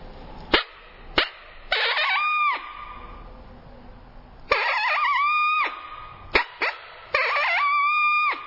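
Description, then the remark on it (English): A hand-blown mouth call mimics a smaller, less dominant coyote giving a challenge: several sharp, yipping barks, each followed by a short, rising howl that cuts off abruptly, repeated three times, loud. “And I'll do it on my mouth call. And it sounds like a smaller, less dominant coyote.”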